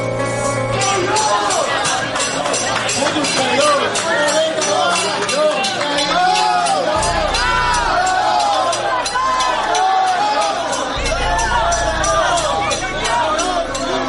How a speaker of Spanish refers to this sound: han tenido que ver hace unas horas cómo personal del hospital en el que está ingresado su familiar, el policía, personal de ese hospital, montaba una cacerolada para gritar libertad presos políticos.